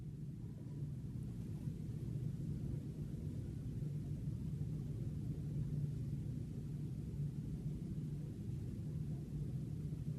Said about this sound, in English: Notice the hum of the sound of the fan.